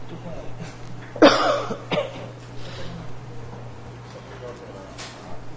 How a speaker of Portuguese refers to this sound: Eita, mas eu tô ruim dessa tossinha, porra.